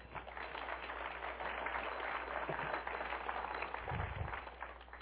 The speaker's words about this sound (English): Amen. Give the Lord a praise clap.